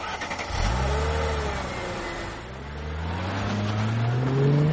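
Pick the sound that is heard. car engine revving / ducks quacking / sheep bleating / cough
car engine revving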